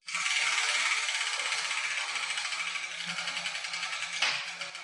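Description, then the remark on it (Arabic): A spinning letter wheel, turned to pick an Arabic letter, gives off a steady, fast ratcheting clatter for several seconds, then a sharper knock as a ball with a letter written on it drops out near the end. No one speaks. “إذن سأنتقل لتحريك الدولاب ولأرى أي حرف سيخرج منه.”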